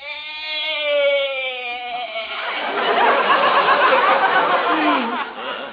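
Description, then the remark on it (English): Arthur, a goat, lets out one long, quavering bleat lasting about two seconds, clear, then a rough burst of noisy chatter or laughter takes over. “Yeah, you sure bleated a bibful, Arthur.”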